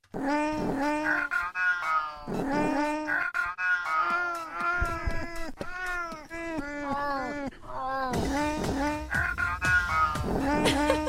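A feral female cat in heat yowls loudly, a string of long, wavering, drawn-out cries following one another almost without pause, with no other voices.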